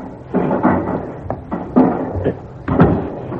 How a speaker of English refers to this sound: Your door open, mademoiselle.